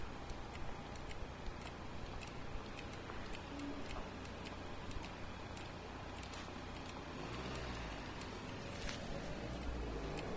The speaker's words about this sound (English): So what this clicking noise means is that the light is red for pedestrians. It's a don't walk signal. This is for deaf... Wait, this isn't for deaf people. This is for blind people.